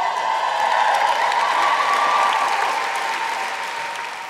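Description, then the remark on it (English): The cast of Amelia cheer and clap at the Royal Albert Hall, a dense wash of applause with voices mixed in, holding strong for several seconds before easing slightly toward the end. “Just give us a cheer, cast of Amelia.”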